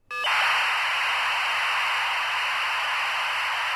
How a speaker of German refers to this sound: Wie ein so verschlüsselter Datenstrom klingt, zeigt die Abhörstation, die gleich daneben den Funkspruch abfängt.